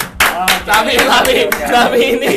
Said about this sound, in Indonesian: Oke, tepuk tangan dulu dong,